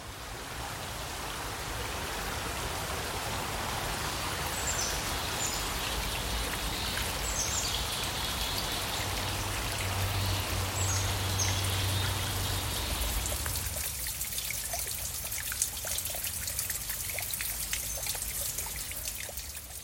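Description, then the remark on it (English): Beaker Creek flows steadily, its continuous babbling rush filling the scene from start to finish, with a few faint bird chirps scattered high above the water. Nobody speaks. “It's called Beaker Creek, and I also find it pretty relaxing, so I sit by there sometimes.”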